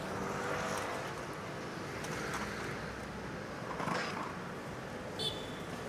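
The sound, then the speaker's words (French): Steady street traffic ambience, a dense continuous rumble of vehicles with occasional louder swells as cars pass, filling the whole scene without pause. “Séparés, lors d'une attaque qui a ciblé leur localité, ils se sont rencontrés par hasard en pleine circulation.”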